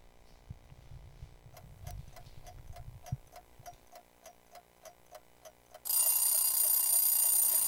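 A song opens with a clock ticking steadily and evenly, over a low rumbling bass at first; near the end the full band crashes in loudly, swamping the ticks.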